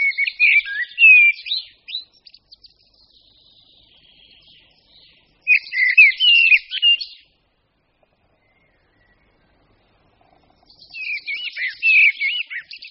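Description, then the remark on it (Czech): Common blackbird song: three clear warbling, whistled phrases with twittering notes, each a second or two long and separated by quiet pauses. Moderately loud, with no voices. “Mláďata kosu začínají zpívat již od 19. dne života.”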